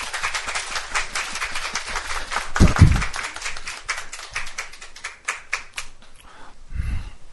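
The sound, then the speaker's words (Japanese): A church audience applauds steadily for several seconds to welcome a new member on the day of her baptism, a dense, even wash of many hands clapping that fades toward the end, with a couple of low thumps mixed in. “皆さん新しい神の家族ですので拍手を持って迎えてください。”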